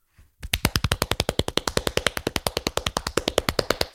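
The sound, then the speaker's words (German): Very fast hand clapping, a steady, rapid run of sharp, loud claps, roughly eight per second, going on for several seconds without any talking. “Du musst schon so klatschen können.”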